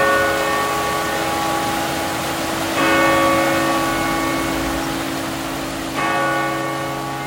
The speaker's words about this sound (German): Also die Kirchenglocken können Sie im Prinzip abstellen.